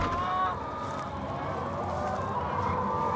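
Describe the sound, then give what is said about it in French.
A dense, continuous chorus of about 12,000 hens clucking together on a farm, a steady overlapping cackle at an even level with no pauses. “on entend les crissements de pneus des voitures sur le circuit automobile de l'Urcy et le caquettement de ces 12 000 poules”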